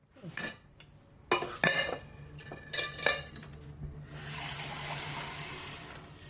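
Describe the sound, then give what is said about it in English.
Dishes clink and clatter in a sink as they are washed, with several sharp ceramic knocks over the first few seconds as a plate is put down, followed by a steady hiss of running water near the end. No one speaks. “David approaches and puts down his plate.”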